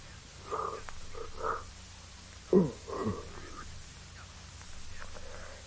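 yawn

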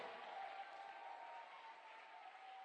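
audience clapping hands

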